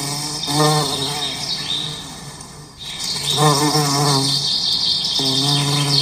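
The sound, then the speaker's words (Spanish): A dense swarm of bees hums inside a hive: overlapping low buzzing drones swell and fade in waves, with thin, higher insect-like chirps layered on top and no voices. “¿Estás listo? Entremos a la colmena.”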